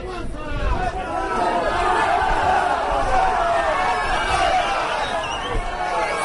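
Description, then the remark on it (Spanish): A crowd of around 500 Real Oviedo football fans shouts and jeers in protest at the Caseta ground after a goalless draw against Noja, a dense, continuous roar of many overlapping voices that stays loud and steady throughout. “Así sonaba el enfado de la afición ovidista en el campo de la Caseta tras el empate sin goles y la mala imagen del Real Oviedo frente al Noja, el colista del grupo y a punto de dejar la competición por problemas económicos.”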